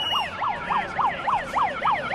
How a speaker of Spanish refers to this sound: a las puertas de la sede de industria en Pamplona, que es donde se ha llevado a cabo esa tercera reunión, pues los negociadores de BSH recibían con cánticos, aplausos, bocinazos y silbidos a los que tenían que llegar hasta la sede.